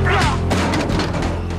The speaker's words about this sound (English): Johnny punches Eddie, knocking him out, and he puts on Eddie's hat.